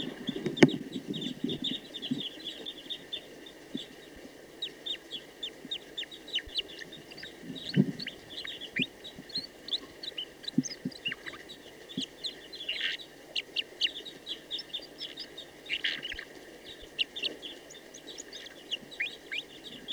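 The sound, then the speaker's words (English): A female bird sings a steady, busy stream of short high chirps and twittering notes for the whole stretch, fairly soft, with a few low clucking sounds underneath and no talking. “So recording, that female is now in good song.”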